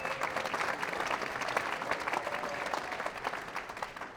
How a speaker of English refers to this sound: And lastly, we had also had support for this show from Radio Heartland. Let's get a round of applause for them.